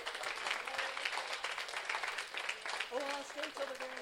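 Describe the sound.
A crowd applauds with steady, dense clapping throughout, and a few voices cheer and call out over it toward the end.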